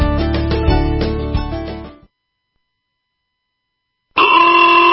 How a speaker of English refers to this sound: Why do I hear honking? What's the celebration? Because homeowners can save thousands right now. And that's worth honking about.